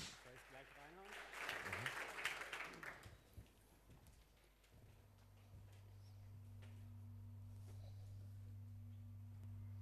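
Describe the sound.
An audience claps in a dense burst lasting a few seconds before it fades away, with a voice heard briefly at the start, then a steady low hum remains.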